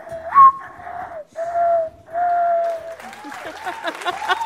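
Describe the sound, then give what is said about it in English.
During a game about birds on NPR's Ask Me Another, someone whistles an imitation of a mourning dove's call: a rising coo followed by three long, soft, low tones, then applause and cheering from a crowd break out. “Morning Dove.”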